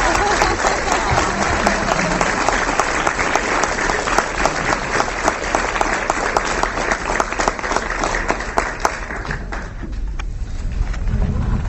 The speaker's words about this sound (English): Well, you certainly set the tone for the day. Can we give Laura another round of applause?